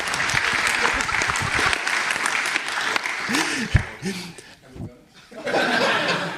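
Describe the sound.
A crowd claps steadily in a dense, sustained round of applause, with a few voices and light laughter mixed in, dipping briefly before the clapping swells again near the end.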